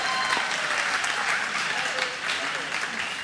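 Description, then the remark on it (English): A crowd claps and cheers loudly and steadily, a dense wash of applause with scattered shouts filling the whole moment without letting up. “Will you please give me a big cheer, a round of applause, big noise.”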